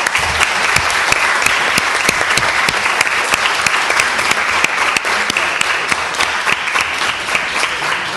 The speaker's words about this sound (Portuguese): Os meus parabéns à Aveiro. Sugiro que façamos uma salva de palmas à Aveiro.